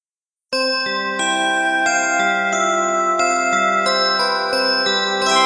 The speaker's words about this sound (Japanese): じゃあここであれ入れましょうかね。いつものチャイムをね。